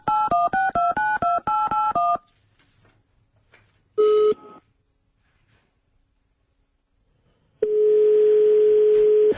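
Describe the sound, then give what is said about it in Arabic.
A quick run of about eight telephone keypad tones, loud, then a pause, a single short tone, and finally a long steady line tone, as a call is dialed to the municipal council of Skhirat. No voices. “نتصلوا بالمجلس البلدي للصخيرات كيف العاده كنمشيو لثابت اولا.”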